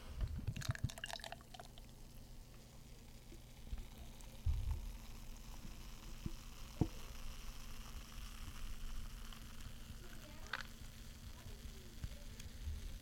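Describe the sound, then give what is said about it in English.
A drink made with lactose sugar and said to smell like Boston Cream is poured from a freshly opened container with a splashy, bubbly rush in the first couple of seconds, then a steady soft fizz and crackle of bubbles continues, broken by a few faint clinks and taps. “I just got a sniff of it as I was pouring it, and it eerily was reminiscent of Boston Cream.”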